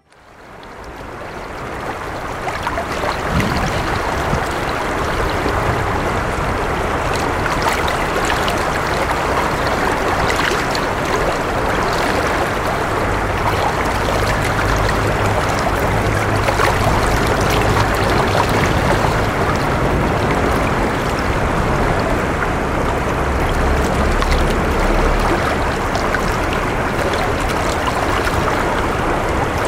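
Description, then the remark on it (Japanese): The Nakatsu River in Morioka, Japan, babbles and rushes steadily in spring, swollen with mountain snowmelt, a broad continuous wash of flowing water, with a faint low rumble of cars crossing a bridge now and then in the background. “今日は春の中津川のせせらぎをお届けします。”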